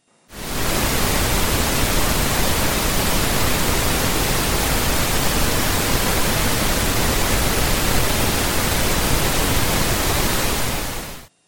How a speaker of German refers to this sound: Übertragen auf unsere Audiobeispiele heißt das, rosa Rauschen ist weißes Rauschen mit einer Anhebung von tiefen Frequenzen. Und so hört es sich nun an.